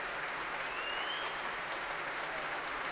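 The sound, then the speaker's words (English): Sustained applause from a large audience at the Proms in a busy Albert Hall, for Catherine Stott, Norika Ogawa and the orchestra under Barry Wordsworth after music by Malcolm Arnold; a dense, steady wash of many hands clapping at even loudness throughout, with no voices standing out. “Barry Wordsworth invites the members of the orchestra to stand and take their applause too.”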